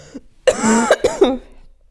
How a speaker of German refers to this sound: Oh Leute, ey, sorry für den Husten. Ich dachte, ich komme durch ohne.